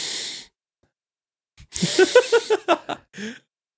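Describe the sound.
A voice imitates the strained, heavy breathing of people who struggle to get air: a long breathy exhale, a pause, then a rapid series of about six effortful, voiced gasping pulses ending in a short hiss, fairly loud.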